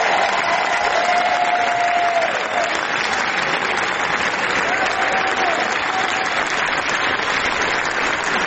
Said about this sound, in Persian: با استقبال پرشور تماشاگران مواجه شد و اونها 12 دقیقه عوامل این فیلم رو در کاخ جشنواره کن تشویق کردند.